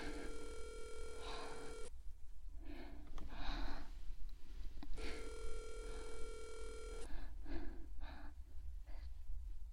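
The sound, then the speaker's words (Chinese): A mobile phone ringtone for an incoming call plays in two steady bursts separated by a pause, clear, with heavy breathing and gasps audible between the rings. “等等，等等，我要接电话，有人给我打电话，把手机给我，我手机。”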